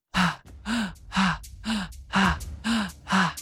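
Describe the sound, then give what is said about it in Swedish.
Forceful, rapid breaths in and out through the mouth during a guided breathing exercise, seven loud huffs in a steady quick rhythm over about three seconds, breathy with a slight voiced edge, no talking. “Så här rekommenderar jag att andas bara genom munnen. Och här andas du kraftfullt in, ut, in, ut.”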